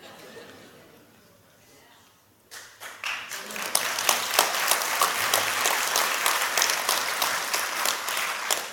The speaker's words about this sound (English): Just so everyone knows online, they're not clapping over the word I said. They're clapping over the realization that they shouldn't allow that garbage into their brain.